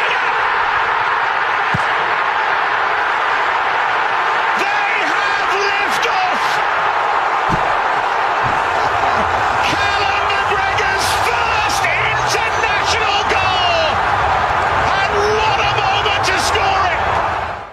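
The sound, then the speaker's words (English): A stadium crowd at an international football match involving Scotland, heard through a radio broadcast, roars loudly and steadily for the whole stretch, with sharp bursts of cheering and whistles cutting through and an indistinct broadcast voice buried beneath. “But, to let the crowd get involved like that is just palpable. Yeah. How you can hear that through the awesome radio.”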